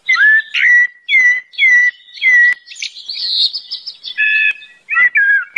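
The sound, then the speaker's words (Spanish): A songbird sings a run of clear, fluting whistled phrases, a blackbird's melodious song, repeated in quick succession with short pauses, loud, with no voices. “El nombre de los pájaros, mirlo, merlo, melodiosa armonía de vocales y consonantes que de algún modo rinde en ambas lenguas homenaje a la destreza de esta criatura”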